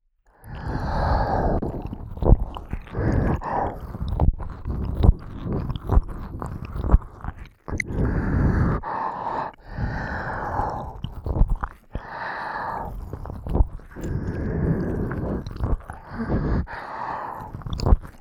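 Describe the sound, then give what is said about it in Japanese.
Slow, wet mouth sounds of someone licking the listener's ear while holding a hand over the listener's mouth, coming in repeated smacking, slurping bursts with brief soft breaths and pauses between them; no one speaks. “君の口を押さえながら、ねっとり君の耳舐めてるのって、 どんどん君の吐息激しくなっていくし、私も変な気分になっちゃいそう。”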